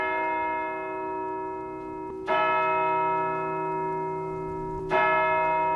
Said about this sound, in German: Nur der schaurige Kindergesang wurde lauter und die Glocke schlug dreimal.